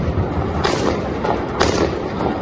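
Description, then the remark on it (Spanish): Gunfire and stun grenades used by Israeli soldiers against stone-throwing Palestinians in Jerusalem on a Friday of prayer during Ramadan, in the morning: about four sharp, booming bangs at uneven intervals, rising over a steady, dense roar of background noise. “Con balas y granadas aturdidoras han reprimido los soldados israelíes a palestinos que lanzaban piedras en este viernes de rezo en pleno Ramadán.”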